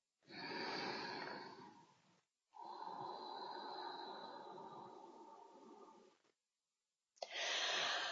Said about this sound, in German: Dabei kann wieder der Mund leicht geöffnet werden oder auch geschlossen bleiben. Beim Ein- und Ausatmen, genau so, wie ich es empfinde.